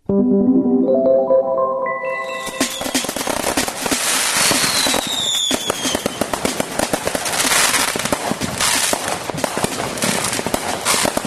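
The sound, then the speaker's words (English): Fireworks go off in a loud, dense barrage, with a tonal whistle at the start giving way to rapid crackling pops and bangs, plus a few descending whistles, continuing steadily throughout. “Expanding sale of more powerful fireworks may have increased revenue, but it lit a short fuse of complaints about excessive noise”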